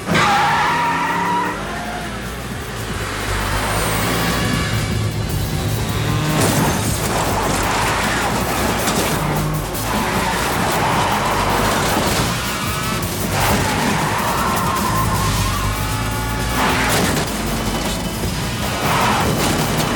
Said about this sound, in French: voilà où la perfection mécanique des 1400 chevaux sous le capot va être payante.